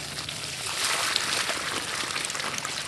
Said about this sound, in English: Works Department pickup truck carrying a 300-gallon water tank is parked next to a grassy parkway. Members of Prime fill buckets and jugs, then carry the water to new oak and crabapple trees. They're making sure these small plants don't go thirsty.